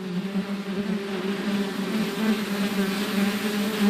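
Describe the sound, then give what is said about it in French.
Wasps buzz steadily in an orchard on Réunion where pesticides have been abandoned, a continuous droning hum with a slight wavering pitch, heard alone over a soft outdoor background with no voices. “En attendant, l'abandon des pesticides a permis aux guêpes de réapparaître dans le verger”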